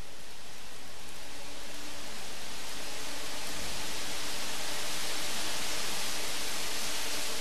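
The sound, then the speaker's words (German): Fans blow a steady, dense whoosh of air that slightly swells and brightens toward the end as they rhythmically fill 19 large golden foil cushions hanging from the ceiling of a factory hall, a kinetic art installation in a Berlin gallery; continuous with no voices. “sind tatsächlich die Geräusche von Lüftern. Rhythmisch befüllen sie 19 von der Decke einer Fabrikhalle hängende große goldene Folienkissen”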